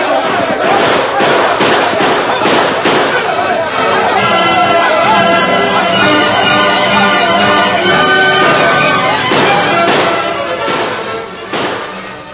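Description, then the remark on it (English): Heavy gunfire rings out in rapid, overlapping volleys that crack and reverberate through a canyon at night, mixed with shouting voices in a loud, chaotic din that barely lets up, as a sheriff's posse moves in on an outlaw gang. “As the sheriff's posse moved in to surround and capture the outlaw gang, heavy gunfire echoed and re-echoed throughout the canyon.”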